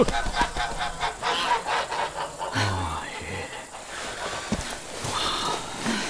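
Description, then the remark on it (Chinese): Geese and goslings honk and squawk in a noisy, bustling cluster while they are driven along with a bamboo pole, with scuffling movement and a few shouted calls mixed in. “我妈妈带着小鹅都走啊，走走走走！”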